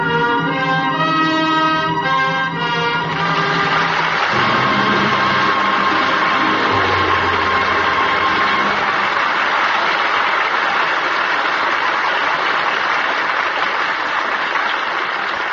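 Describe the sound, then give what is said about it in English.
A held orchestral chord ends a performance of Anna and the King of Siam and gives way to steady, loud audience applause inviting a curtain call, a dense wash of clapping that carries on evenly to the end. “That well-deserved applause invites a curtain call.”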